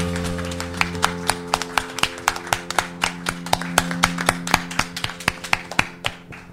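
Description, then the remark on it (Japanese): Crisp hand claps in a steady, fairly even rhythm, about four per second, continuing throughout over a low, constant electrical hum; no one speaks. Applause offered to God at the close of an FF-organized concert. “ここまで導いてくださった神様に拍手しましょう。”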